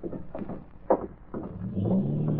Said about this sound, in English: I hear a car starting outside.